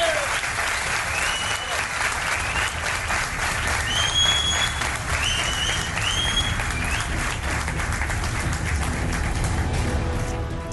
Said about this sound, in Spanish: que se sienta que estamos aquí, Belme, un aplauso para que nos sientan en toda España y en el mundo.